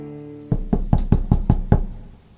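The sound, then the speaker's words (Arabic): Loki knocks on the wooden door of Brokk's workshop: seven firm knocks in a quick, steady rhythm, fairly loud, each with a short hollow ring, then it settles into quiet. “ثم رجع لوكي لصورته الأصلية ووضع نفسه خارج باب ورشة بروك، وكأنه عاد من أسغارد كما اتفقا، فطرق على الباب.”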